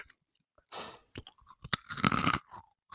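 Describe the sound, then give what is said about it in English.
Loud crunching as someone bites and chews a crispy snack, with a burst of brittle cracks followed by several rapid chewing crunches and no talking. “Oh, that sounds crunchy.”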